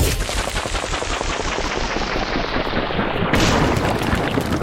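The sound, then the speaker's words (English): A game sound effect for throwing a rock: a dense, rapid crackling rattle that runs steadily for several seconds, turning brighter and slightly louder near the end, with no talking. “You throw a rock. Alright, so this is when you throw a rock.”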